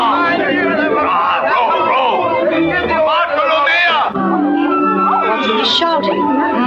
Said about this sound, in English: Shouting. Hmm? Sounds like pirates.